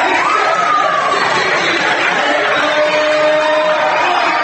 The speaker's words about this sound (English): I mean, they put us down here in the crowd, which really makes it exciting. There's a real nice crowd here tonight. You might as well come out and watch high school basketball.